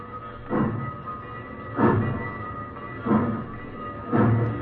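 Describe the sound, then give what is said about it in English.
A train rolls along the rails across fields and plains at night on its way to Mexico, with a steady low rumble broken by a regular clack-clack of wheels crossing track joints about once a second, moderately loud. “The train rolled across the fields and plains and sang out at night on its way to Mexico.”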